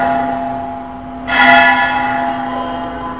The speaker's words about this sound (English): Very nice bell, very good bell. It's because this bell is mixed up with the sound of Rasabihari's flute.